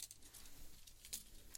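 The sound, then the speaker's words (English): Soft plastic clatter and rustling of a keyboard being lifted off a computer table and shifted, a few light knocks spread across the moment, quiet with no talking. “Okay, I need to take this keyboard because it's on my computer table.”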